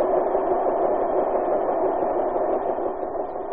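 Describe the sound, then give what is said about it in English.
A steady, loud mechanical roar of giant printing presses running at full speed, printing 15,000 copies an hour of the American Weekly magazine in full color, a dense continuous rumble with no pauses and no voices. “The roar of the presses. Every week these giant presses roll and keep rolling at tremendous speed.”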